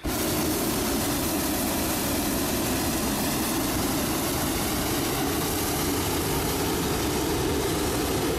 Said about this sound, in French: Chouette, une montgolfière. J'ai toujours rêvé d'en faire.